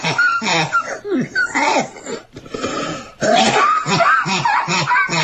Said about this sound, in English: This is her coughing. Listen to this.